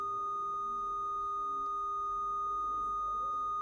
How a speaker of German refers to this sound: aber wenn man den lauten Ton sozusagen wegnimmt, ist dieses leise Moment da. Es geht einfach unter in diesem in diesem schrecklichen Piepsen von dem 1200 Hertz. Ja, ein bisschen hört man immer noch.